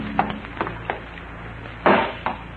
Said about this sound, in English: You smash the jars with a hammer and start to pour the fruit down the drain.